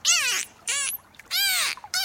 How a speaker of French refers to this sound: Écoutez ça, docteur. Oui. Je crois que Plipper, le dauphin, essaie de nous parler.